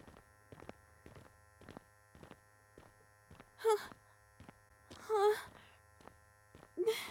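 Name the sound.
vibrator buzzing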